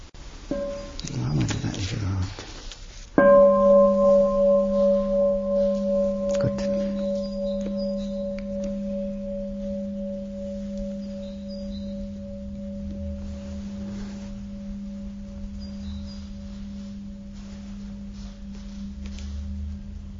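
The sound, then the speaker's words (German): After a few seconds of soft rustling, a meditation bell is struck once. Its deep, humming tone and a higher overtone ring out, pulsing gently and slowly fading over many seconds. “Hören wir gerade nochmal die Glocke.”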